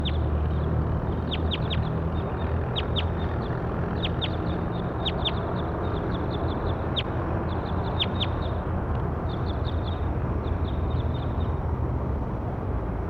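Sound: bird calls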